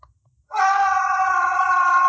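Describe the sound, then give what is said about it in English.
A sudden, piercing scream bursts in after a brief silence as an arrow strikes a pink fruit and lodges in its center. The scream holds at full intensity, harsh, sustained and loud, with no talking over it. “It hits a pink fruit exactly in the center and lodges in the fruit, and as soon as it strikes the fruit, you hear this ungodly scream.”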